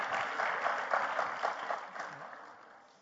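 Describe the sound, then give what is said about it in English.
An audience breaks into steady applause for engaged audience members, dense overlapping claps that hold for a couple of seconds and then taper off toward the end. “Why do we clap when we find out people are engaged?”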